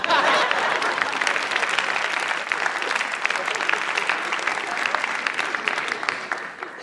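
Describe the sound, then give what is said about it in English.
An audience applauds steadily for several seconds, a dense wash of many hands clapping at once, fairly loud, holding an even level before easing slightly at the end. “It's okay to applaud.”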